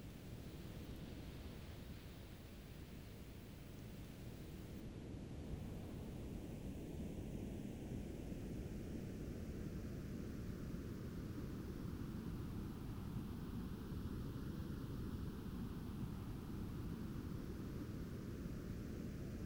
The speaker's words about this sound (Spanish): El sonido rosado es lo que oyes, un sonido que contiene todo el sonido. Se llama rosado para indicar que se ha ajustado el volumen de sonido en los registros más altos y más bajos para compensar por pérdidas de audición en el oído humano natural.